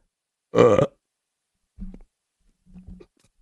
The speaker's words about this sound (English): To burp in front of your child. It's the first time I've done this.